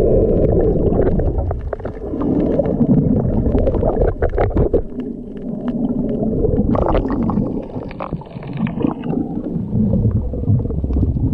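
Muffled underwater recording from a diver's GoPro camera at a reef after his boat capsized, a steady low rumble and churning water with intermittent bubbling and thumps, continuous throughout, with no voices.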